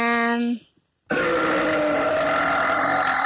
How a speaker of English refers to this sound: That was you. That was you. It was you. Oh, you just farted.